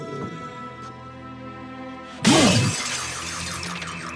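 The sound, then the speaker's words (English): Inside a house, a glass display case holding a scepter is smashed with a bronze statue: a sudden loud crash of breaking glass bursts in after a quiet, humming stretch, followed by a bright, lingering wash of scattering shards with a brief squealing tone at the impact. “breaks the glass with a bronze statue, hands it to Larry, and picks up his scepter”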